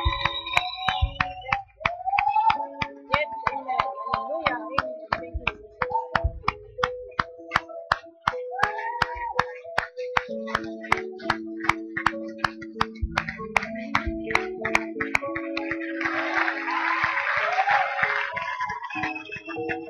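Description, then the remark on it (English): A crowd cheers and claps in a steady, rhythmic beat over sustained keyboard or organ chords as people are invited to step out, come to the front and come to Christ; a swell of cheering rises near the end. “the reason we're all cheering is because we remember the day we made this walk.”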